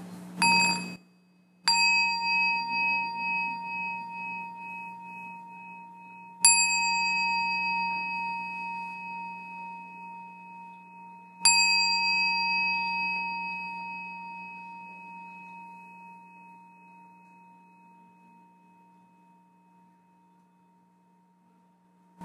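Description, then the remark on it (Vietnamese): A meditation bell is struck three times at slow, even intervals during an evening session of a meditation retreat in Orange County, California, each ring a clear resonant tone with shimmering overtones that lingers and slowly fades, heard alone with no talking. “từ giờ thoải mái, thả lỏng toàn thân, trở về lắng nghe hơi thở của mình và an tâm về lại trọn về với thân của chúng ta trong giây phút thực tại bây giờ và đây, và lắng nghe tiếng chuông bất kỳ buổi tham vấn tối hôm nay.”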